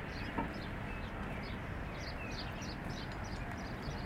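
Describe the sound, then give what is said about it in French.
Many small birds chirp and call repeatedly over a steady, broad outdoor rumble, with wind, above a road where cars pass underneath, their high twittering scattered throughout. “Oiseaux, un bruit non identifié, je pense.”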